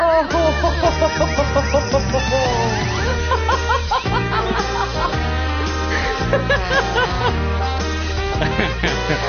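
chickens clucking

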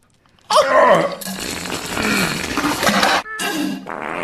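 fart

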